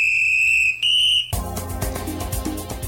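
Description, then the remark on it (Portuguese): A whistle gives two steady, shrill blasts, the first slightly longer than the second, before a burst of rhythmic music cuts in and takes over. “O apito tocou e o Paredes já tinha chegado”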